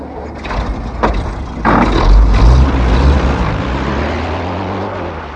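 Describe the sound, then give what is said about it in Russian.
A ZIS car engine rumbles steadily as it drives along a highway, with a deep low drone that swells louder midway, plus a few brief clunks and hisses early on. No one speaks. “Когда Хижняк проулком выехал на шоссе, ЗИС, на который сели 2 офицера, уже скрылся из виду.”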